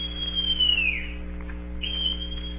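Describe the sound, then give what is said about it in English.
Long John Silver blows a whistle in two shrill blasts, the first long and sliding downward in pitch, the second shorter after a brief pause, over a steady low hum. “Then Silver brought out a whistle.”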